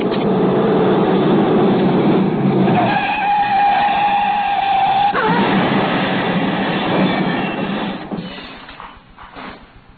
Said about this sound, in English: Reported in stolen car. Large green Daimler speeding south.